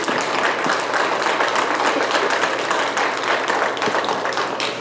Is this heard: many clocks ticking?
no